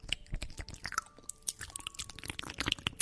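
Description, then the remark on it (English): ASMR recording of a person chewing into a microphone: close, wet chewing and crunching right up against the microphone, a steady run of sticky mouth clicks and bites with no talking, loud and intimate throughout. “That is somebody chewing into a microphone, ASMR.”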